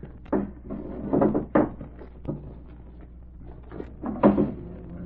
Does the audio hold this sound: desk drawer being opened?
yes